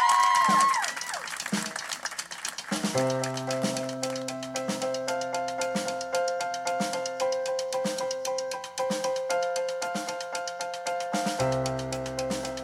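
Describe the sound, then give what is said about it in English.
A concert audience claps and applauds steadily throughout, a dense wash of hands over sustained instrumental tones that come in after a few seconds. “Please, please, clap it up.”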